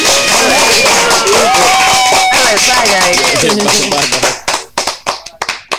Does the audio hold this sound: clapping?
yes